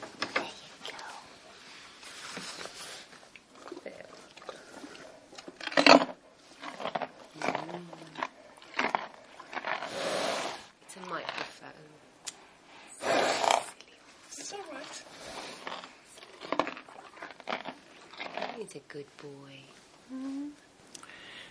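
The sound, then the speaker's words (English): A horse named Marcus in his stable box stall, about 4 square metres, is called in to be fed. Irregular crunchy chewing, rustling and sharp snort-like bursts, some loud spikes among quieter shuffling, while a low voice murmurs now and then. “Stupid horse, he's like, no.”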